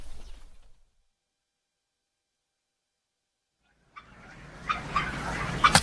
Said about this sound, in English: You want to peck some, peck this. I didn't know turkeys liked your bit.